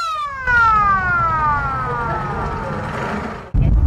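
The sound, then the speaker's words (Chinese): The siren of a police car model used by Victoria Police, Australia, in 1975–1976 wails loudly, its pitch sliding steadily downward over a rumbling engine, then cuts off abruptly into a burst of low noise. “这是维多利亚省1975至1976年使用的警车车型。”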